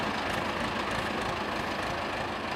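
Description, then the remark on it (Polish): A tractor engine idles with a steady, rough rumble, a continuous low drone that stays even throughout with no voices over it. “Widzę, że pan ciągnik ma...”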